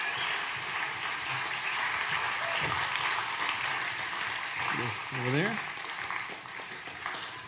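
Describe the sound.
Sustained audience applause, a dense, steady wash of many hands clapping throughout, with a few voices speaking briefly over it.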